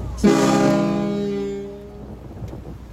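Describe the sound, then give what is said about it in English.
A large ferry boat joining other boats near orcas in a narrow channel sounds one loud, deep horn blast that starts abruptly, holds a rich droning tone for over a second, then fades away. No one speaks. “As we all enjoy the view of the orcas, a large ferry boat joins the crowd in the channel.”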